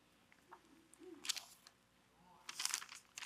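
A small piece of paper for writing on crinkles softly as it is handed over, in two short bursts, a quick rustle followed a moment later by a longer, busier crinkling, fairly quiet against a hushed background.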